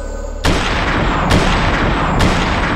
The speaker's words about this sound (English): Christy realized the strange report she was hearing from the direction where Ryan had gone were time-warped gunshots.